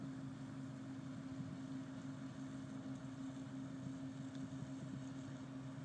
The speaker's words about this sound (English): But the boat's going through right now, right by me, so you might be able to hear the roar of the boat.